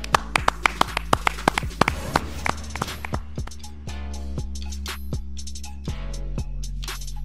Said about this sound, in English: Clap it up.